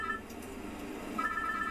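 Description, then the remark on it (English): A payphone in a phone booth rings with steady, bright electronic tones that pause briefly and resume, heard at moderate volume against a low background hum with no one talking. “are you going to leave us at two ringing phones?”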